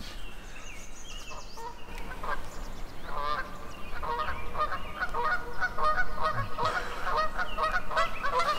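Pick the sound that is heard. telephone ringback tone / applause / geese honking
geese honking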